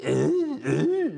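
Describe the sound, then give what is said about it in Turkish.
Two loud, exaggerated throat-clearing coughs in quick succession, each a drawn-out guttural rasp with a pitch that bends up and down, with no talking around them. “Öyle öksürülür mü ya?”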